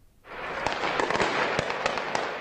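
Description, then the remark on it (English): Gunfire in the city of Almaty, Kazakhstan, during protests: several sharp shots crack at irregular intervals over a loud, steady wash of outdoor noise, with no voices heard. “The sound of gunfire in the city of Almaty today.”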